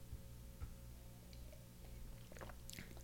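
A quiet sip of wine during a wine tasting, with soft wet mouth sounds and small clicks, ending in a brief slurp and lip smacking near the end, with no talking.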